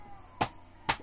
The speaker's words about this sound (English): His feet slap when he walks. It's like slap, slap, slap.